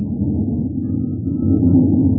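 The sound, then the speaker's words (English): The engine of a U.S. Air Force Scorpion F-89D fighter interceptor jet, made by Northrop Aircraft, roars steadily as its test pilot prepares to take off, a loud, deep rumble with a tonal whine that swells slightly toward the end, with no voices. “It's the roar of a Scorpion as he prepares to take it up.”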